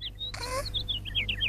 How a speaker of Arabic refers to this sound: سمعت فلة صوت الكتكوت. ذلك الصوت يجعلني أشعر بالجوع.